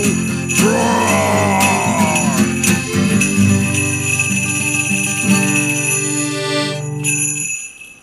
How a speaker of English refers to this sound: Nice work there on the jingle bells